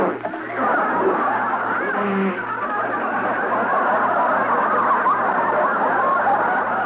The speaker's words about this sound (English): And here come the cars down the stretch for the 14th lap. That's it. That's it. I got it. The 3 leaders are now coming past the grandstand.